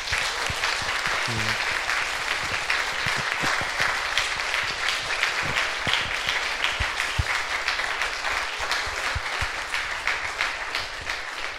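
A room full of people applauding steadily, dense overlapping claps holding at a fairly loud level for the whole stretch, with no talking over it.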